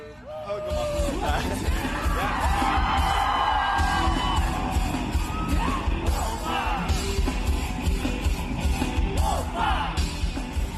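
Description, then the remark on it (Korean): A large crowd at the Incheon Pentaport Rock Festival cheers, yells and whoops continuously, voices rising in excited waves over a steady low rumble of amplified music with drums, loud throughout. “락커와 하나가 되어 환호하고 박수치고 뛰고 춤을 추다 보니까 심장이 점점 뜨거워집니다.”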